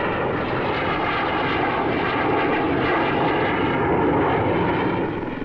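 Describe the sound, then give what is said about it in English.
A Sea King helicopter's engine roars steadily and loudly as it lowers its sonar dipper into the sea, a dense, continuous mechanical drone with a faint rapid throbbing underneath, holding level throughout with no voices. “A Sea King lowers its sonar dipper into the depth of the sea.”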